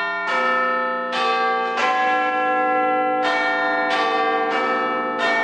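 The large bells of Big Ben ring out in a rich, resonant sequence, several strikes overlapping with long sustained tones like a clock tower chime, telling the time, loud and with no voices.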